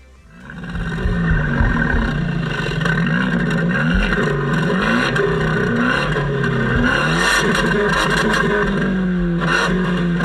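A Fiat 124 car engine starts up and roars steadily, its pitch wavering as it revs and settles over about ten seconds, with no voices.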